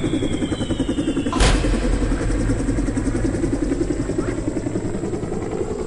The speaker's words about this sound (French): Non, ne pars pas, hélicoptère, reste.